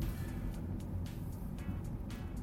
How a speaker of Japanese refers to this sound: 本線に入った時にね車の音だけを拾うんだよね。だからブワーンっつって、ブワーンの音だけをさっき拾ってたでしょ。うん、それが嫌だったね。